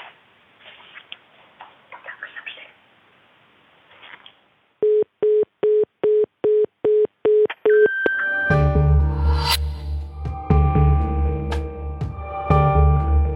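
A run of about eight short, evenly spaced electronic beeps, like an answering machine tone, rings out clearly after a quiet stretch, then full music swells in.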